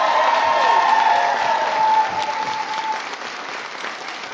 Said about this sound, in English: Everybody, please give the National Teacher of the Year a big round of applause.